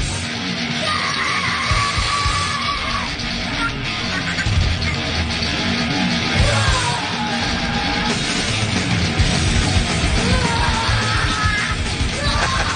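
Loud, dense distorted guitar, played by a girl of about 10 on the Rocksmith game, chugs along steadily while her sister of about 5 yells and screams the vocals in a high voice, the whole thing sustained and noisy from start to finish.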